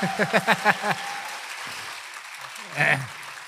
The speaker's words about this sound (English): So without further ado, please join me in welcoming Ajahn Brahm by giving him a round of applause.